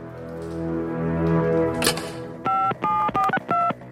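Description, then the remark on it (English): A handset is picked up from a red telephone with a brief clatter, then four crisp keypad tones beep in quick succession, each a steady dual-pitched note with short gaps, over a low rumbling background, as a call is dialed to a company headquarters. “Pass me the red telephone right now. Get Marvel headquarters on the line.”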